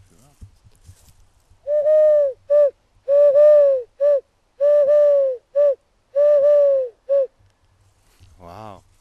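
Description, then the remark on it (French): A person imitates a turtle dove's cooing, producing a clear rhythmic series of soft, hooting coos in short grouped phrases, fairly loud, followed by a brief breathy sound. “Tu sais faire la tourterelle là ?”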